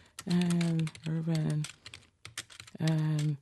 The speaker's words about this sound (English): First thing you have to do is take a typing test. Let me try it. And it's simple. Let's say type a little sentence here. Let me see if I can do it.